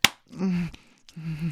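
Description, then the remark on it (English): A single sharp slap of a hand on buttocks at the very start, followed by drawn-out voiced moaning sounds with brief pauses. “Slap my ass. Yeah, do it.”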